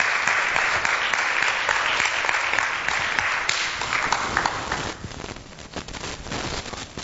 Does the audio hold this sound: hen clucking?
no